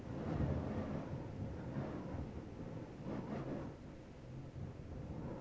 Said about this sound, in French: C'est alors que, sans prévenir, un coup de vent souffle sur l'arbre.